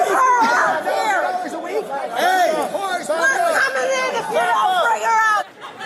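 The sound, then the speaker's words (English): A large crowd of armed MAGA supporters at the U.S. Capitol building during the January 6th insurrection, demanding Nancy Pelosi, yells and screams all at once, many raised voices overlapping in a loud, continuous roar of shouting that stays intense before briefly dipping near the end. “During the January 6th insurrection, throngs of armed MAGA freaks screamed at the Capitol building to send over Nancy Pelosi or else they'd come inside and get her.”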